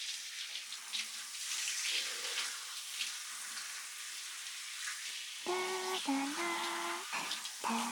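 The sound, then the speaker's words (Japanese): Steady shower spray hisses continuously as water rinses soap foam off skin, with a few brief tonal squeaks or hums rising over the rush near the end. “それでは改めて泡を流しますね。”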